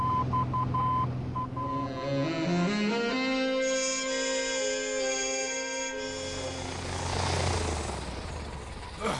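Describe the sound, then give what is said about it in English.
An airplane flying, its engine droning loudly with a whine that climbs in pitch over several seconds before giving way to a broad rushing roar. “This is exciting, Lance, flying around in our own stolen plane.”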